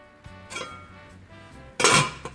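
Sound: pots and pans clattering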